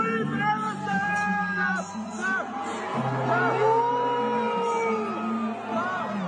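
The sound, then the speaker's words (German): A large crowd in an arena at the ESC chants slogans and boos together, with sustained overlapping voices, rising calls and a steady loud roar of many people throughout. “Es gibt aber Videos aus der Halle, die zeugen von einer anderen Atmosphäre vor Ort.”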